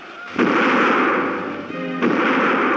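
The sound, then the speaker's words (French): Two loud cannon blasts about a second and a half apart, part of a 21-gun ceremonial salute fired on the quays of the Seine, each followed by a long rolling rumble that fills the space between shots. “Sur les quais de la Seine, 21 coups de canon saluent l'acte solennel”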